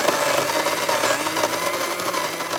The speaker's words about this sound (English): My cats and dogs, when you put it on, it's like a hurricane's hit the house. Everyone scrambles underneath the sofas. Until recently, the volume of an average vacuum cleaner was about 75 decibels, which is about as loud as a coffee grinder.